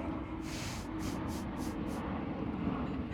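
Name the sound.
airplane flying overhead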